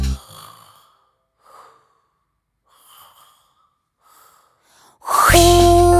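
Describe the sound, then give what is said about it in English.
Several soft, breathy inhales build up, then one loud, voiced sneeze bursts out at the end, like someone acting out an exaggerated achoo. “Brr, cold, brr, it's cold, it's cold. Achoo!”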